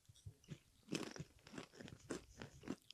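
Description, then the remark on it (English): Someone crunches on a cracker covered in Vegemite and cheese, with several sharp, dry bites and chews in an uneven rhythm over a few seconds. No one speaks. “Oh, they're going to hear a big crunch.”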